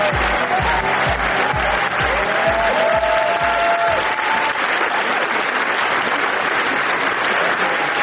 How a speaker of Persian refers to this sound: قهرمان مورد تشویق گسترده تماشاگران قرار گرفت.